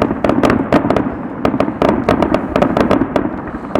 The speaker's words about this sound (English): Blowing a whole lot of fireworks, though. Oh my God, we're clipping. It looks like they're getting closer and closer to us.